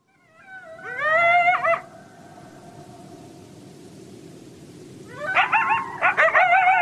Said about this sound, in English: And so with the one that they're most known for is the group yip howl. And hopefully we'll be able to listen to that.